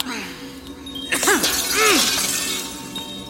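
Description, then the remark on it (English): Mirror glass shatters in a sudden bright crash, tinkling shards spilling and ringing briefly afterward, while a voice makes short vocal sounds over the breakage. “just break the mirrors.”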